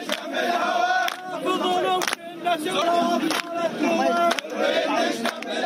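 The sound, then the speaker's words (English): A crowd of young men chanting loudly in unison at a street protest in the southern port city of Basra, demanding more clean drinking water for their province, their voices rising and falling in a repeated rhythmic pattern, with brief sharp clicks punctuating the chant. “A crowd of young men chanted during a street protest Tuesday in the southern port city of Basra, demanding the central government and Prime Minister Haider al-Abadi increase the quantity of clean drinking water allotted to their province.”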